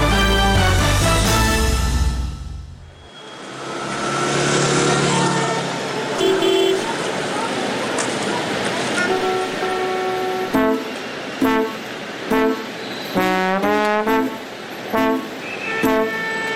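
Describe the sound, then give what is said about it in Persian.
Busy street traffic, cars at traffic lights with people among them, engines rumbling and several car horns honking in short, repeated blasts, some overlapping, fairly loud against a steady roadway din. “ماشینا پشت چراغا، آدمام بین اونا، توی دود”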